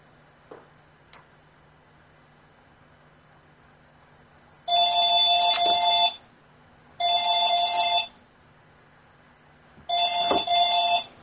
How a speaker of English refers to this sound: Do you need to get that? No, I think the answering phone's just got it. Okay. You have an answering phone like mine. I can't really turn off the stupid sound.